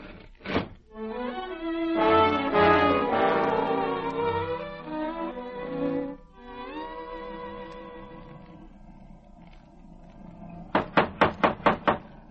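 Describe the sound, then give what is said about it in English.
Someone raps on a door five times in a quick, even, sharp burst, following a stretch of orchestral music that fades down beforehand. “If Saskia ever answered the door inside of 10 minutes, I think I'd drop dead.”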